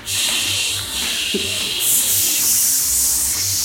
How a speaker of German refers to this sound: Ich gehe jetzt in die Küche. Genau, ich mache schon mal den Cuttergrill an.